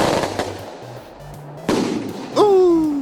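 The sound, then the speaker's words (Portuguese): A string of twelve firecracker shots cracks out one after another at irregular intervals, sharp, the loudest bang near the end trailing into a descending whistle. “Deixa eu mandar uma bomba aqui. Eita! Vai que vai! Oh, pegou! Aqui, ó, 12 tiros!”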